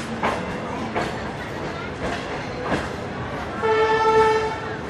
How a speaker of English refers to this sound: 10 years ago, trains in China sounded like this.